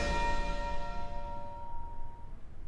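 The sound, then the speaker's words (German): A single church bell strike marking midnight rings out with a rich, sustained tone that slowly fades away over a couple of seconds, heard alone against a low rumbling background. “Bis der letzte Glockenschlag zur Mitternacht erklang”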